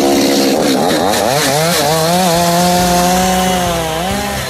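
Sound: chainsaw engine running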